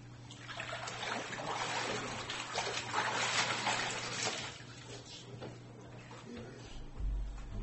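Water sloshes and splashes in a large baptismal tank as a man goes down under the water and rises up again, a steady churning wash that swells in the middle and then eases, with a low hum underneath.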